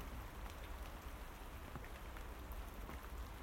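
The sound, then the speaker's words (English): Steady rain patters on a surface on a dismal, windy, mild late-November morning, a dense continuous hiss with scattered individual drops ticking through, constant in level, with no voices. “Wind and rain, wind and rain.”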